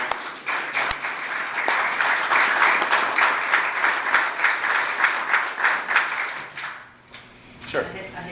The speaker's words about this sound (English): anyway, round of applause for these guys.